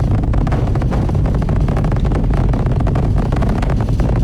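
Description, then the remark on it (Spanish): Rocket engines of a NASA mission roar steadily during launch and ascent, a loud, continuous, deep rumble with crackling texture that fills the whole stretch without pause. No voices are heard. “El ruido que llega. Los motores.”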